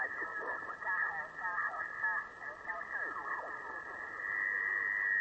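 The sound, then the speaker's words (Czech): Shortwave radio interference while tuning a receiver upward: a steady whistling tone with warbling, sweeping chirps and garbled signal fragments, continuous and fairly loud throughout. “Tady v tom rušení se doladím.”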